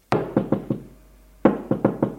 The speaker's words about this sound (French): Maxime frappe à la porte de Mathilde.